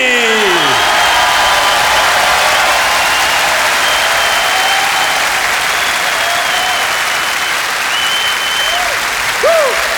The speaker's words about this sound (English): Ladies and gentlemen, I'm so happy to present to you the founder of the Harlem Gospel Choir. Give him an enormous applause, the one and only, the magnificent